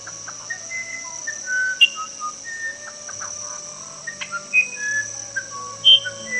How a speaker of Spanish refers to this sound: Era el hermoso indio que habían perdido para siempre, hechizado en un pájaro con la voz más melodiosa de la selva. Era el Huirapurú.